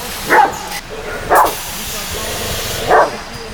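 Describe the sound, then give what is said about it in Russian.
A black guide dog named Itan, lying by an assembler's workplace in a factory shop, gives three sharp, separate barks on seeing a group of people, the last after a longer pause, loud over a steady hissing background. “Увидев группу людей, пес подал голос.”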